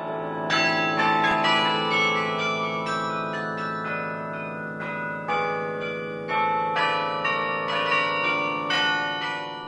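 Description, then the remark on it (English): Carillon bells in Bird Park, Richmond, ring out a tune, a steady run of struck notes overlapping as each one lingers and decays, fairly loud and full, with no voices. “Bolt says Bird Park will host a number of carillon concerts this year, with both guest players and Richmond's own carilloner Lawrence Robinson.”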